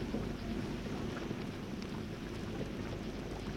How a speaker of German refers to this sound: Die ersten Hagelkörner. Sie prasseln herunter wie gefrorener Kies.